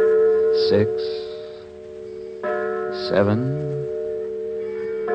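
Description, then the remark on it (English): A church bell tolls slowly on a Sunday evening, ringing out the time before evening services, two heavy strokes a couple of seconds apart, each leaving a long, humming ring that hangs in the air between them. “I heard the tolling of a church bell.”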